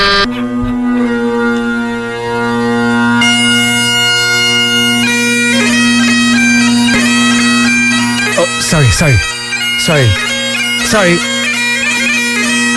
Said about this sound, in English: Sorry, that was my phone.